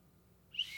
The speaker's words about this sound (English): Okay, so you get your blowing ready. And you put your tongue on the end of the hole, and you start to blow, and then you pull your tongue away, and it'll whistle.